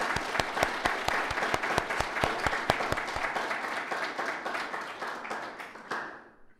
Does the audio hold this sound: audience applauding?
yes